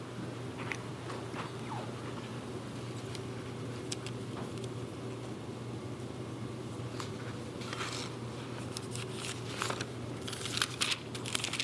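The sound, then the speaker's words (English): Sheets of paper shuffled and rustled in irregular bursts over a steady low hum, the crisp crackles growing busier near the end, with no one speaking. “Apparently, I managed to bring every piece of paper in my house except the main one that had my outline on it.”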